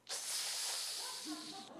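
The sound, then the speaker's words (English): A voice imitates the sharp intake of breath sucked through the teeth that Japanese people make on the phone instead of saying no: one steady, loud hissing inhale lasting over a second and a half, broad and airy, with no words spoken. “It's like, oh, I heard the sucking of air.”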